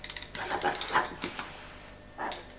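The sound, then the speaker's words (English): A toy dog gives a run of short, high, tinny whimpers and yips, a quick cluster of cries followed by a pause and one more drawn-out whine. “Shall we switch him off now because he's a bit tired? Why? He's a bit tired now. Look, I think the dog's hungry.”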